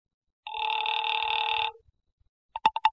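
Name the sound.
telephone ringing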